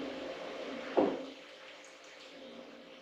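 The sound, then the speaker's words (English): A drink is poured slowly: a steady stream of liquid pours continuously, with a brief louder splash about a second in before it settles back into a soft, even trickle. “And you kind of want to pour it a little slow.”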